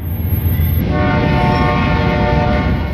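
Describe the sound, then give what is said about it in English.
A recording of a train horn outside a house, blaring with steady, layered harmonic tones over the deep rumble of a passing train, loud, with no voices. “Can you believe I had to resort to a recording of the train? Now it is the train outside my house, but no trains were coming when I was recording this episode.”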